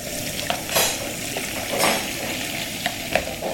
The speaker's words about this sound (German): Freitagmittag in einer kleinen Gruppenküche. Nach dem Essen wird abgewaschen. Also ich lasse jetzt Wasser ins Becken laufen, weil das auch nachhaltiger ist. Also unter laufendem Wasser soll man nicht spülen. Habe ein bisschen Spülmittel reingegeben.